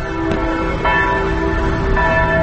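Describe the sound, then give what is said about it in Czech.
The bells of the Catholic cathedral in Pristina, Kosovo, ring out loudly, with fresh strikes arriving every half second or so over a thick, overlapping hum of sustained resonant tones; no voices are heard. “i zvuk zvona sa katoličke katedrale u Prištini.”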